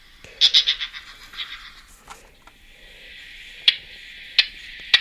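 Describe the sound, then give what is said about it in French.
A Western Orphean Warbler call: a quick burst of harsh, scratchy high notes, then a steady buzzy rasp broken by a few sharp, spaced ticks. No one speaks. “Ça, c'est un autre cri, encore.”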